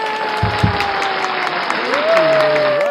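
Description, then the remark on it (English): An audience applauds steadily as a therapist guest is welcomed onto the talk show MILF Talk, a dense patter of clapping under sustained musical tones that swell and shift pitch toward the end, with a couple of low thumps early on. “How often do you get applause for being a therapist?”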